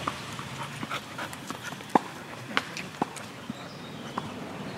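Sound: dog panting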